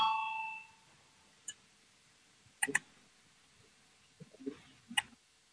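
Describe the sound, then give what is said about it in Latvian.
A parliamentary voting bell rings loudly at the start, calling a vote on proposal 154, and cuts off, followed by scattered quiet clicks and knocks in an otherwise hushed setting. “Lūdzu zvanu balsosim par 154.”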